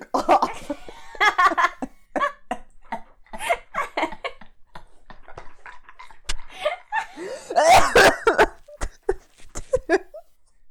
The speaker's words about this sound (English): Not gonna cut it. Gonna leave it in. That was such a good cough.